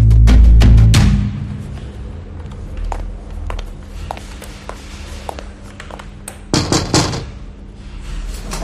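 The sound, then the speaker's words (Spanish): A heavy door to a police commissioner's office thuds open at the start, followed by faint scattered clicks and footfalls, then another solid bang near the end as it swings shut, without any talking. “Cierre la puerta, por favor.”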